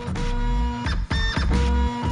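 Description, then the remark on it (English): A printer grinds and whirs mechanically in repeated strained bursts with brief pauses between, loud, as paper jams in the rollers. “You know that sound? You don't hear that anymore, do you? Printer jam.”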